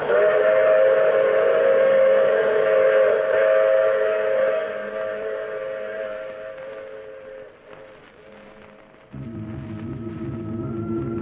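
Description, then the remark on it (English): A train whistle blows loud and sustained with steady harmonic tones, fading after several seconds as the rumble of a running train continues, then a heavier low chugging rises near the end. “Oh, you have to get off here. I'm sorry. I'm sure we meet again. I take this same train every week at the same time.”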